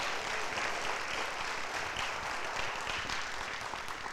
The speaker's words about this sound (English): Y'all can go ahead and give them a hand.